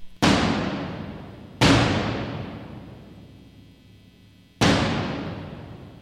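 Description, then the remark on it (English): Three booming strikes on a very large bass drum, recorded in 1982 in St. Mark's Church, New York City, at the opening of a symphony's first movement. The strikes are unevenly spaced, each hitting hard and then ringing out in a long, reverberant decay that fills the church. No voices. “The first movement, which is 22 minutes long, begins with almost 2 minutes of sonic booms from a very large bass drum.”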